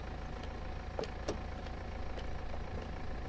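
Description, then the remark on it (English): A silver car drives up and stops, its engine idling with a steady low rumble, while a couple of faint clicks briefly sound over it near the start. “It drives past her and stops beside Precious.”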